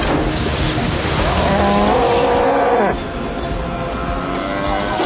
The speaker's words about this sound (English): Another cow. Actually, I think that was the same one.